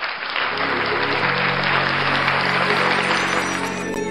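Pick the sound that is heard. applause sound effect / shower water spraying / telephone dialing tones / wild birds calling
applause sound effect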